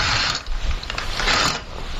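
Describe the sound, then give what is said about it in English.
Curtains being drawn closed: a steady, raspy sliding scrape with faint rattling, lasting about two seconds with a brief dip partway through. No voices. “And close the curtains.”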